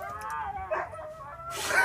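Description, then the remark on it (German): Several huskies howl and yelp together, their high wavering cries overlapping before a louder burst of yelping at the end, without any talking. “Ja, das sind einfach Huskies, die sind sehr mitteilungsbedürftig.”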